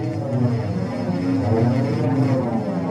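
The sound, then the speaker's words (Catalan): Loud, steady drone of propeller military airplane engines roaring with no pause for the full few seconds, a dense, rumbling hum, as the aircraft in flight turn before diving on the enemy. “Atenció, fem ara un gir amb els nostres avions i ens disposem a llançar-nos sobre l'enemic.”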